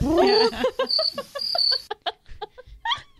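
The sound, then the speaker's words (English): Crickets chirp in short, repeated high trills over about two seconds, mixed with snickering laughter, before the chirping stops and scattered giggles and breathy voice sounds continue. “So we have a sound effect that sounds Anna, like a shocker. Warning, crickets”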